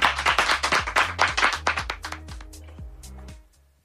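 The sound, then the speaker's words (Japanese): A small audience applauds racer Takahashi, with brisk overlapping hand claps that start strong, gradually thin out, and fade to silence within about four seconds. “ということで、高橋選手に大きな拍手を。”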